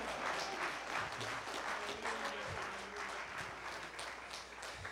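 An audience claps hands in praise of God, a dense, steady wash of applause lasting several seconds at an even volume, with faint voices murmuring underneath.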